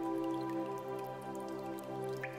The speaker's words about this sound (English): You pass through the jagged teeth of the mouth, listening to droplets of water dripping down the walls, echoing softly.